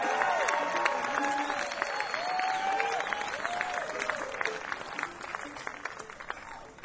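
An audience applauds steadily for about seven seconds, a dense wash of clapping with a few voices whooping and cheering above it, easing off slightly at the end.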